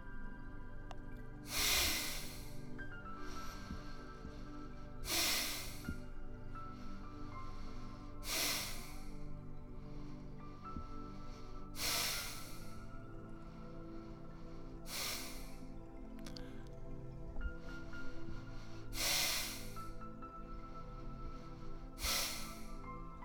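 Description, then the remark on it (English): Sharp, forceful exhalations with passive inhalations in a breathing exercise puff out in a steady rhythm, about one every three seconds, loud over a soft sustained musical drone, with no talking. “Breathing in passively and breathing out forcefully.”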